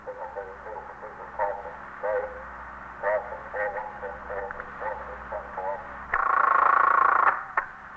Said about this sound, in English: The stillness was broken occasionally by the hum of the switchboard or a call over the monitor of KEA, the police radio.